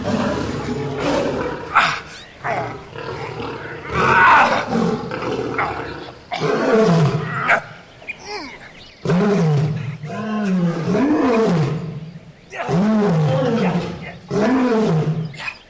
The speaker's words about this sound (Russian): Что это? Вроде лев, но я не вижу его. Я вижу, вон там, среди виноградника. Спаси нас, Господи! Какой огромный!